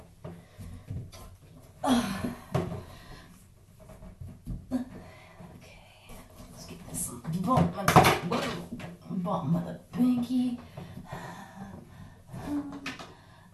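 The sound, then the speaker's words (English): Water sloshes and splashes in a tiny bathtub, with irregular hollow knocks and bumps against its sides, some sharp and loud, while a voice murmurs faintly beneath. “Sorry for the bathtub sounds, okay?”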